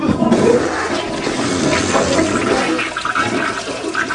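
toilet flushing

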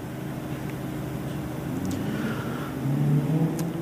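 car driving

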